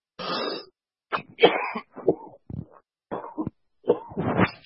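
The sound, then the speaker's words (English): A fit of harsh, repeated coughing: about six raspy bursts in quick succession with short gaps, the first long and hoarse, the last ones rough and throaty, no talking. “I'm really sorry about the coughing.”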